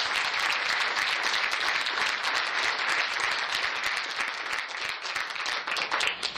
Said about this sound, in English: So another big round of applause for our 10 finalists.